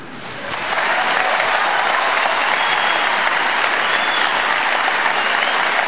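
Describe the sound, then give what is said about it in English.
An audience bursts into applause, the clapping swelling within the first second into a dense, steady roar of many hands that holds loud and even to the end, with no one speaking. “Why applaud the needless deployment of National Guard troops, for Christ's sake, for a war based on a lie so we could steal another nation's natural resources and inject ourselves on a permanent basis into the Middle East?”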